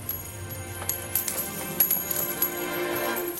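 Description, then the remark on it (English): Metal coins clatter and jingle onto a hard floor in a rapid, scattered burst of bright clinks, moderately loud, with no voices, as the money changers' tables are overturned and their coins scattered. “He overturned the tables of the money changers, scattered their coins.”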